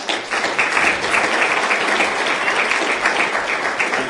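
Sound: audience round of applause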